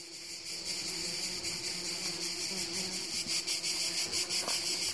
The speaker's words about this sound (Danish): Vi er langt ude på landet, oppe i bjergene, hvor cikadernes lydtæppe overdøver alt.